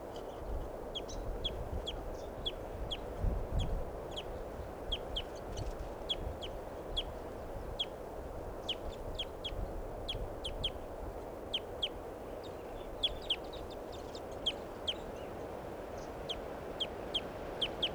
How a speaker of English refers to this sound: There's a fairly large flock of crossbills in the tree here. That's the tree that's in the middle of the corral at Barford Park. This is where I'm camped now. And this is the sample of the flock's pre-flight calls. They're perched kind of low.